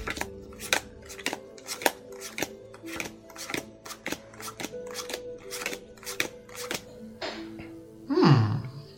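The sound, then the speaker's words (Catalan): Tarot cards being shuffled by a tarot reader for a client's reading: a steady run of crisp snapping clicks over a low sustained drone, ending with a brief descending swoosh. No one speaks. “Assenta't i deixa que barregi el teu destí.”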